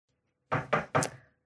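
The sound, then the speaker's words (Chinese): Three firm knocks on a door in quick, even succession, fairly loud, with a short ring-out after the last one and no voices. “等到去，哎，我来开门。”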